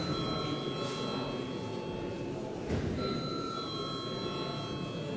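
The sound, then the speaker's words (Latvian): A parliamentary voting bell rings steadily and without pause, calling members to vote on granting urgency to a bill. It is a sustained metallic tone over a low background murmur, briefly wavering before the ringing carries on to the end. “Lūdzu, zvanu.”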